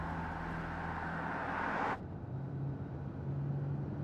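Marco's car drives along a rural highway with a steady, loud rush of road noise. It then cuts abruptly to a muffled, lower engine hum heard from inside the car.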